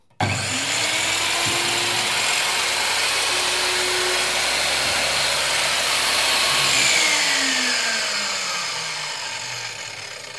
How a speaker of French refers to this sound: Donc ça, c'est quelle machine déjà ? C'est la scie à onglet radial. Donc, on va faire une petite démonstration. Allez. On va couper une petite planche de bois.